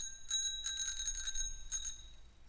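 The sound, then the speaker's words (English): A bicycle bell that came with an ice cream green bike rings in three quick bursts, its bright metallic tone shimmering with high overtones, clear with no one talking. “I knew that I had to have a bell because apparently that is the law.”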